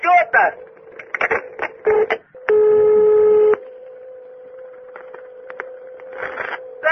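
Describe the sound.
A telephone keypad tone sounds once as a number is dialed, loud and buzzy for about a second, over a steady low electronic hum, with people talking before and after it.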